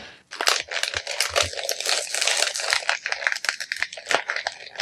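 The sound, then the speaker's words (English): Loud, continuous crinkling and crackling of stiff plastic Hasbro toy packaging being handled and pulled open, with dense, irregular bursts of rustle and sharp crunches for several seconds. “I hate how Hasbro packages these things.”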